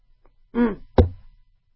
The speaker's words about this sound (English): So let's just quickly review. Let me wet my whistle for a sec.